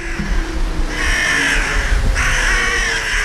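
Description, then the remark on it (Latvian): Harsh, raspy crow caws ring out in two drawn-out calls, fairly loud, over a steady low background rumble with no one talking. “Vispār vārnveidīgie putni kā tādi skaitās paši inteliģentākie putnu vidū noteikti un ir tādi testi, teiksim, barības iegūšanas iemaņas un tā tālāk, kurās vārnas tieši pārspēj pat šimpanzes.”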